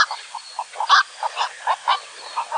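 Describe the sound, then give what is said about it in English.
Hoarse, croaking calls of a black-crowned night heron, a rapid run of about ten short harsh squawks in quick succession, clear with no talking. “These graceful, broad-winged water birds can often be seen in flight in the mornings and evenings, which is also the best time to hear their loud, hoarse call.”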